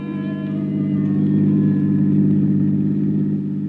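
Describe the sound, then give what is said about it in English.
A car engine hums at a steady low pitch, swelling slightly as the car pulls away, fairly loud for a few seconds, with no voices. “I shut the door, headed once more for my car. The lady of the house was waiting. We took off.”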